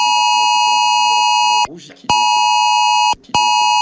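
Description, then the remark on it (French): A loud, piercing FR-Alert emergency alert tone blares steadily on a phone in place of the usual text message tone, cutting out briefly twice before resuming, with a person speaking faintly underneath. “Quand vous recevez ce message-là, vous n'avez pas la sonnerie de votre texto habituel, vous recevrez ce son un peu strident qui est volontaire afin que vraiment vous puissiez lire le message.”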